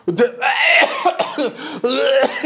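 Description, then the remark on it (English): A person coughs several times in quick, harsh bursts, each with a raspy, voiced tail, caused by popcorn lodged in the throat; the coughing fills the whole clip with no talking around it. “I coughed.”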